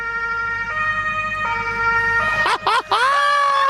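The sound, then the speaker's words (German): A loud emergency vehicle siren (German Martinshorn), switched on from the vehicle's center console with the engine running in Bad Düben, sounds alone, alternating between two tones before sweeping up and down in rapid wails, over a steady engine rumble. “aber wir machen Martinshorn an”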